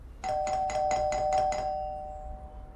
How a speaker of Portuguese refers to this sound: Em pânico, Shivasi foge e em breve está à porta de casa de Ruth a tocar a campainha com todas as suas forças.